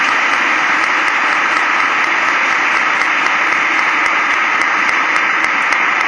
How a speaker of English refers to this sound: Has Jesus heard your prayer? Czy Jezus usłyszał twoją modlitwę? Clap for him again. Zaklaskaj dla niego ponownie.